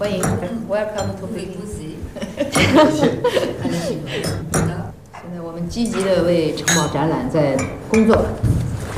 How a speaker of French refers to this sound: Alors on trinque.